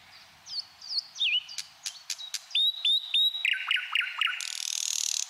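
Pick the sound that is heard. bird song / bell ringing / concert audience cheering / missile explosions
bird song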